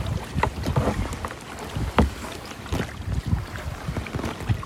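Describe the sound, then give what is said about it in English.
Kayak paddle strokes dip and splash in a loose, steady rhythm on still fjord water, each stroke a soft swish of water, with light wind rumbling against the microphone throughout. No one speaks. “We're just kayaking through the fjords, and it is beautiful.”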